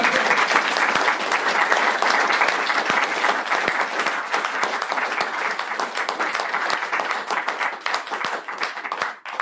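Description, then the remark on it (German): Sustained audience applause with dense, rapid clapping from many hands, steady and loud throughout, tapering slightly near the end. “Denke, das ist nochmal ein Applaus nochmal für den.”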